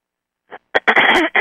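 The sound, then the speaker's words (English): A speaker at a seminar clears their throat in a few harsh bursts: a faint catch, a sharp rasp, then a longer rough, gravelly clearing, with another burst starting at the end. “Probably going to be doing a lot of clearing during this particular seminar, which involves my clearing my throat periodically, so excuse me.”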